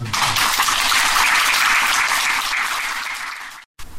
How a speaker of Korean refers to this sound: 더 큰 스님을 위해서 큰 축하 박수를 합니다.